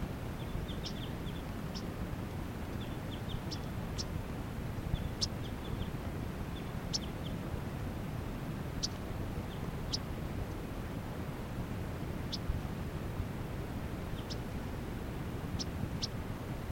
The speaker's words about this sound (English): These are some yellow-rumped warblers flying around up above the net side.